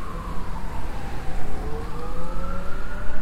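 siren

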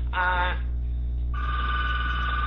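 telephone ringing

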